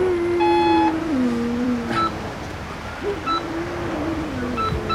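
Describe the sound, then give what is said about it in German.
Electronic phone tones, steady beeps and shorter bleeps like dialing and ringing, as someone phones the coast guard from a surf bay, over a constant rushing background that resembles surf. No one speaks. “Ich rufe jetzt die Küstenwache an.”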